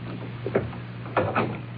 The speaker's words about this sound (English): Close the door.